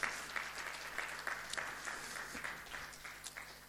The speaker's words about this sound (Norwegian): Ja, la oss gi en applaus for Jesus, som er Bibelens opphavsmann.